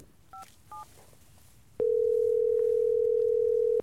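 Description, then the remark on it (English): Two quick keypad beeps as a phone call to an expert is dialed, then a loud, steady telephone dial tone that hums at one pitch for about two seconds before cutting off. No one speaks. “Let me see if I have a signal, and maybe I can dial in an expert.”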